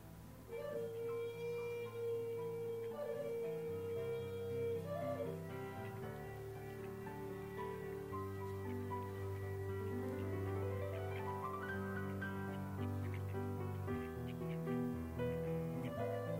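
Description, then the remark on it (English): A melodic piece of music plays steadily throughout, with sustained tonal lines over a deeper bass and a gently rising phrase partway through. No one speaks over it. “We're listening to her song”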